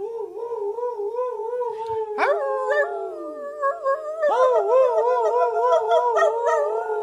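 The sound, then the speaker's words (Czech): A chorus of wolves howling together, heard from a distance, long wavering overlapping cries that rise and fall in pitch, with more voices joining partway through and no talking. “Jen jejich radostné vití bylo slyšet z dálky.”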